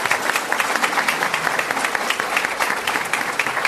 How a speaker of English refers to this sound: Round of applause. Very well done.